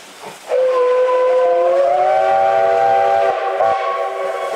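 A loud, sustained steam locomotive whistle blows for several seconds, its chord rising slightly in pitch, with a brief dip before it continues over a hissing background. No one speaks.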